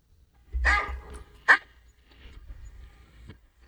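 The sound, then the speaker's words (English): A person imitates a dog barking: one longer, rough woof followed by a short, sharp yip, fairly loud, then quiet low rustling. “No, we're going to start studying it, and we're going to say that dog bark is, I'm hungry.”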